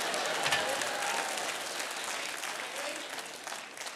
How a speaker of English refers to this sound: We're trying to, hey, come on, man. I hear those whoops. Come on.